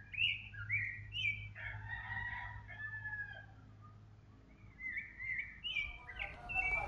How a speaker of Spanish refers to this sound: Vamos a escuchar. Canto de ave en el volcán.